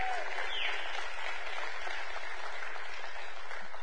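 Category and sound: crowd, audience clapping hands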